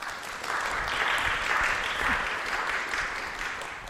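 A crowd applauds steadily, a dense wash of clapping hands that swells in the first half second and holds at a fairly even level, with faint voices underneath.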